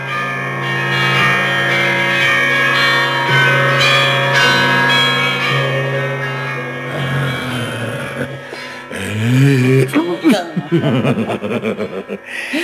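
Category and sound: signal or alarm, church bells ringing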